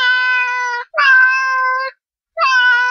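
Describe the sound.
Voices imitate cat meows in three long, drawn-out calls, loud, with short pauses between them and no other talking.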